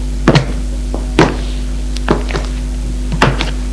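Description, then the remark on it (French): A door is being shut, giving a few dull thunks and clicks spaced across a few seconds, over a steady low electrical hum with no talking. “Ferme la porte.”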